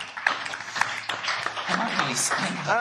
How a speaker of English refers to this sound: That's the end of the time. So well done. Give a round of applause for the medal. So far.